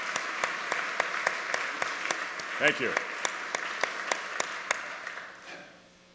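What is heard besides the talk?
audience applause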